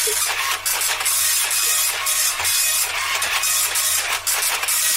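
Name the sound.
printer printing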